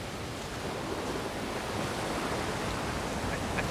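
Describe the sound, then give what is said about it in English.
Ocean surf rushes steadily onto a beach, a continuous broad wash of water noise at moderate volume with no distinct breaks between waves and no voices. “The landscape changes from farmhouses and lush green countryside to water crashing on a beach.”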